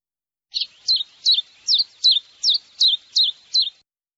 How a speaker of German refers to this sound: Der Vogel piept.